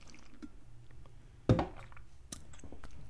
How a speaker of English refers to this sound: I need a sip of my water.